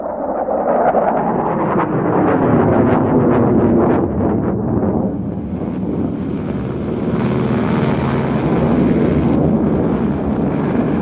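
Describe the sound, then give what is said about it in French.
A Junkers propeller plane's engine roars steadily and loud, its droning pitch climbing and shifting as it powers up for takeoff on 21 April 1945, one of ten planes taking off, with rushing wind noise throughout and no voices. “Décollage 21 avril 1945, sur 10 avions, 9 semble-t-il se sont bel et bien posés, mais un des Junkers manque à l'appel, qui s'est tout simplement écrasé.”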